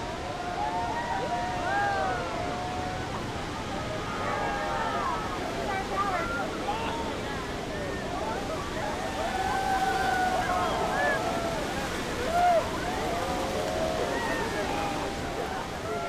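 A constant, heavy roar of crashing water surrounds a tour boat held at the base of Horseshoe Falls, with a crowd of tourists' excited chatter and scattered exclamations running throughout, lively over the thundering falls.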